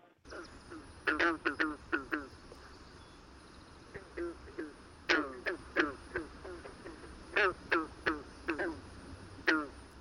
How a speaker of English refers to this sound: And joining us now is the green frog.